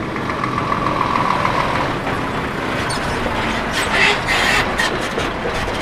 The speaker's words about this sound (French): Ouais, toute la journée, on en fait du bruit. Hein. Val d'Isère, en intersaison, comme l'automne ou le printemps, c'est plutôt vide. Il n'y a personne. Bah, il y a surtout des camions parce que c'est la saison des travaux en intersaison.